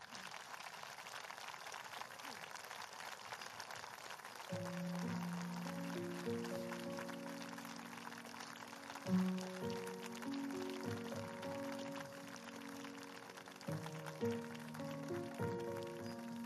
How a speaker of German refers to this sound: Ja, ich habe so viele Menschen, die so für mich nur geklatscht haben, noch nie gesehen. Das ist das erste Mal.